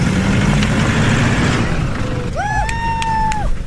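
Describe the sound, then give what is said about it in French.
A rally car engine growls through rough noise, then revs sharply upward into a steady, high-pitched whine as the car, crewed by women, pulls away through sand after being dug out with sand recovery boards, rejoining the race. “Après un quart d'heure de galère et beaucoup d'huile de coude, elles ont pu enfin se relancer dans la course.”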